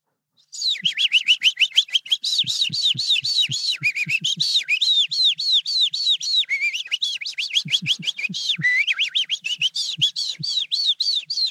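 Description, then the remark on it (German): A human voice imitates a skylark's song: a loud, unbroken stream of rapid trilling chirps and high whistles that tumble on without pause for over ten seconds, with no talking. “Die Feldlerche.”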